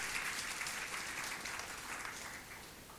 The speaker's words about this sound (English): Can we give God a clap of praise, dear friends?